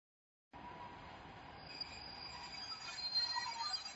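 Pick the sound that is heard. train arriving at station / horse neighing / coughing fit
train arriving at station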